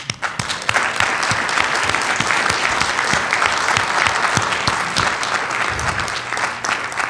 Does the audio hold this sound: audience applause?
yes